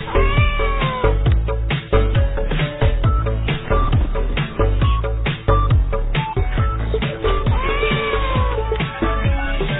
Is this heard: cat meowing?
yes